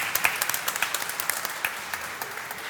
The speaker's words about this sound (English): I'd like to begin this morning by offering my word of gratitude to you, the church family, for an outstanding Family and Friends Day last Sunday. I give you a round of applause.